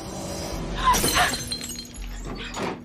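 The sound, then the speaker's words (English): A glass jar is dropped into a bathroom basin and smashes loudly, a bright burst of breaking glass followed by a brief scatter of tinkling shards, then low shuffling movement as someone hurries out of the bathroom. “Dropping one of the glass jars in the basin, Maya hurries out of the bathroom.”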